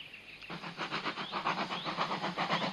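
A steam train chuffs along steadily through sunny countryside, its rhythmic puffing beats repeating with a faint rising whistle-like tone, no voices present.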